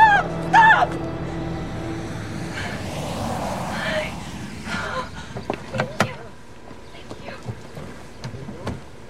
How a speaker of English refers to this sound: waves to an oncoming car.